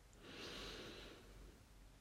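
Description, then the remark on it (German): A single slow, deep inhale through the nose, a soft airy hiss that swells and fades over about a second. “Wir atmen tief ein”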